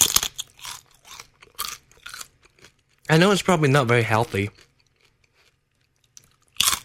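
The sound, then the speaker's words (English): Crisp, seasoned chicken skin, taken off chicken thighs while making chicken soup, crunches loudly in a run of irregular chewing bites, followed by a person speaking briefly, then quiet with one last crunch at the end. “Well, you have your chicken skin.”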